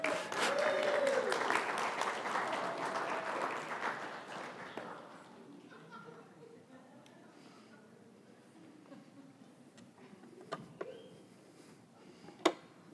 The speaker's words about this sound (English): Better clap a little more than that. We don't come cheap.